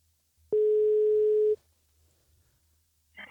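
A single telephone ringback tone, one steady one-second beep heard loud and clear, followed by quiet line hiss while the call waits to be answered.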